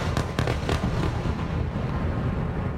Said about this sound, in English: Explosions heard through the night. Gaza firing airstrikes towards Israel as Israel upped its offensive against Gaza, hitting from air, land, and sea.